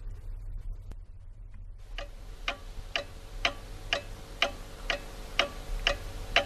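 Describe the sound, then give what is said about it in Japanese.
A grandfather's treasured clock ticks steadily at an even, unhurried pace, each sharp tick clear, beginning after a quiet moment and continuing alone over a low background hum. “小さい時からなぜだかおじいちゃんの大切にしている時計に興味があったけど、それだけではない、もっと大切な何かがあるような気がしていた。”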